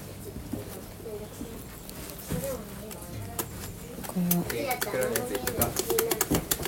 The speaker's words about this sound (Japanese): 鳥？ また鳥が出ちゃう。 また鳥が。